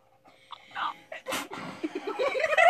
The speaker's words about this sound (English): She sneezes.